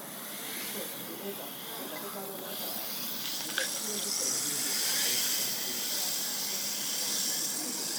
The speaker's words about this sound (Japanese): あれ？だんだんシュワシュワが弱まってきたような。